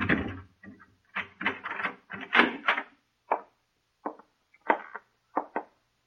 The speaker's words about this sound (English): Keys, sir? Yes, Larry gave them to me months ago. Go on, open the door.